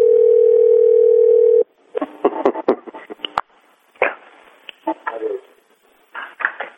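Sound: telephone keypad dialing tones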